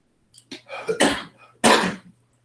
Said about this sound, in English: Oh, excuse me. I have a little cough there.